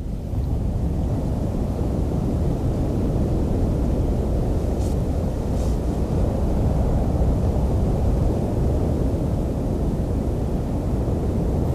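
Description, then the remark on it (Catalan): Waves wash onto the sandy Trabucador beach (Platja del Trabucador) in a steady, unbroken roar, heavy in the low end with a soft hiss above. The surf holds an even loudness throughout, with no voices. Recorded in October. “Aquest so, és de, si no estic equivocat, és la platja del Trabucador.”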